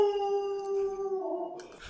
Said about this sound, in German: So, ihr habt jetzt wahrscheinlich gerade im Hintergrund meinen Hund gehört, der oben am Fenster irgendwas gehört und sich fürchterlich aufgeregt hat.